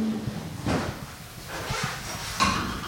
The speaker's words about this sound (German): Nach ihrer Radtour kramt sie aus der Schublade unter der schwarzen Wohnzimmercouch ein weißes Kästchen mit Mundstück.